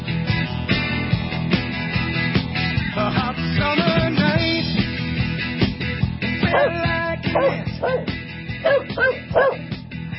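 Dogs bark and yip repeatedly in a busy, overlapping jumble, with sharp higher yelps standing out later, all sitting behind a steady low hum at moderate loudness.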